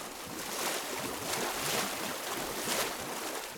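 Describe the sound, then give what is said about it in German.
A cold-water geyser in Wallenborn bubbling and gushing, its water column rising from a hole in the ground up to 3 meters high: a dense, steady rush of churning water with periodic surges swelling louder, and no voices. “Das Geräusch des aufsteigenden Wassers, das Sprudeln und Brodeln, kennt in Wallenborn jedes Kind.”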